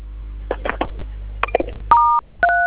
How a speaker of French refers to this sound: Vous composez étoile 500.